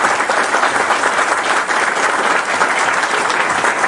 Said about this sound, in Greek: θέλω να το χειροκροτήσουμε για την προσφορά του στον τόπο.